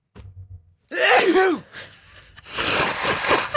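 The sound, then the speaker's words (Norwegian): A violent sneeze from the NRK archive: a brief intake of breath, then a loud, explosive burst, followed by a second harsh, noisy blast that trails off at the end. “Jag måste innrömma att hvis jeg tror att ingen hör på, så kan det nys alltså något så våldsamt.”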